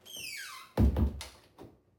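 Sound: door closing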